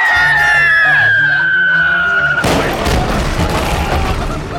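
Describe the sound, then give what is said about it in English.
The whistle of a cannon shell fired by Captain Reginald glides slowly downward in pitch for about two seconds, then a loud cannonball explosion bursts in as the shell lands in the powder room, trailing off into a long, rough roar of crackling noise. “And there's the whistle of a shell. Uh-huh. And it's getting louder. Cannonball!”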